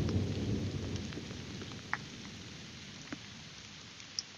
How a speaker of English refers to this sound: Hey, good morning. Thursday. A little thunder in the air. Thunder. It's raining. Can you hear it? I'll be quiet.